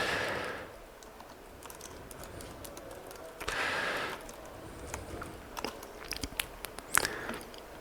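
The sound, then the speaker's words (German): Irregular clicks of typing on a computer keyboard at a speaker's lectern during a talk, faint at first and then a sharper, quicker burst of keystrokes near the end, with a couple of soft hissing rustles in between and no talking. “Tastaturbedienung auf dem Speakerpult ist schwerer als erwartet.”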